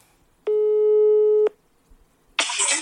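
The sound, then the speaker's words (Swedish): A single steady, droning ringback tone of an outgoing phone call lasts about a second, then stops. After a short silence comes a loud, hissy burst of noise as the line picks up. “Vi ringer henne på en gång.”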